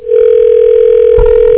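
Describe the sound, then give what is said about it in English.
A telephone busy signal: a loud, steady electronic tone that holds unbroken for over a second, with a faint low thump partway through and no one talking. “We're having some sort of meltdown with the phones. That's busy.”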